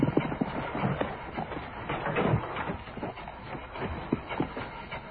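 Donkey hooves clip-clop in a steady, uneven rhythm against a dense, rumbling background, the hoofbeats moderately loud, with no talking.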